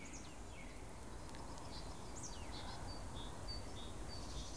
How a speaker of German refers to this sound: Im Hintergrund hört man rufende Amseln, wippende Kohlmeisen, trommelnde Spechte.